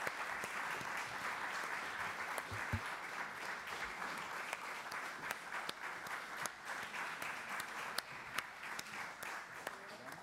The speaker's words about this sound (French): Vamos a recibir con un aplauso et maintenant, también nous allons recevoir avec des applaudissements l'équipe de Adults in the Room qui vont se joindre à nous. Qui vont nous rejoindre.